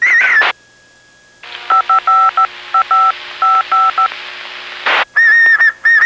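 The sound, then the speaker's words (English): A short warbling whistle comes through a radio channel, then a run of rapid paired beeping tones over steady hiss, before the whistling returns loudly at the end. “who's this guy that whistles at you?”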